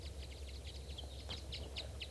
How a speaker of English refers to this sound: There's at least 4 or 5 birds here. A large flock.